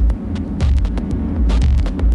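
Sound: refrigerator hum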